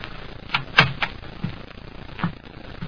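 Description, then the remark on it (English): An apartment door is tried and opened: a short series of sharp clicks and dull thuds, like a latch turning and wood shifting, spread unevenly over a few seconds with no voices. “I knocked. Then I tried the door. It was open, and I walked in.”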